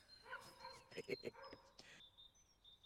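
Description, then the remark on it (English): A dog barks several times in quick, uneven bursts over the first couple of seconds, fairly loud, then quiets as a faint steady tone lingers in the background. “There is always barking when great things happen.”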